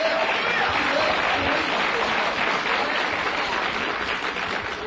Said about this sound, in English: You ought to give Jesus a better hand clap than that.